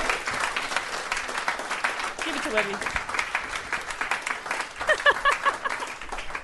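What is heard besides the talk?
round of applause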